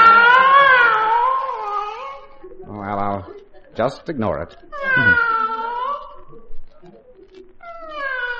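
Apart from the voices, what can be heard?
cat screaming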